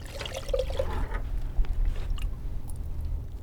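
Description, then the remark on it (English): Coffee is poured into a cup for a tasting in a brief, gurgling trickle that rises in pitch, then tapers off into a low background hum. “Do you want to pour?”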